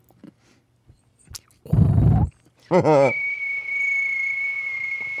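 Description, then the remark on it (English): A steady, high-pitched cricket trill chirps continuously for the last couple of seconds, following a brief low thud and a short whinny-like wavering cry. “Make the cricket sound effect for me. I get crickets.”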